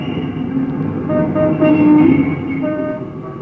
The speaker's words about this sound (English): What a blooming noise them buses makes outside, hey, Alfie? I'm glad they do. Working here at night, cleaning up the theater after the performance, why, I feel right lonesome-like without them.